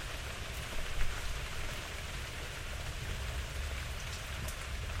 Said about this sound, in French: Et devant moi, les feuilles d'olivier, les feuilles de figuier plutôt, se remuent sous la brise et la pluie.